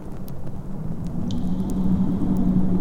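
storm

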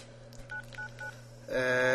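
phone dialing tones

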